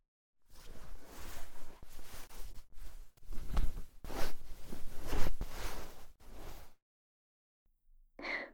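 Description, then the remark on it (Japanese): Rasping zipper sounds with some fabric rustling as trousers are zipped up, coming in several uneven pulls over about six seconds, followed by a pause and a brief final scrape. No one speaks. “ズボンは自分で履いてもらえますか？チャックでおちんちん挟んだりしたら悲惨なので。”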